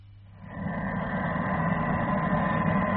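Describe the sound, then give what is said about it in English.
A ship's engine rumbles steadily as the ship comes alongside another vessel, a deep continuous drone with a faint tonal hum on top, swelling in over the first half second and then holding level with no speech. “Coming alongside the Popperdom now, sir. Stop engines, Chief.”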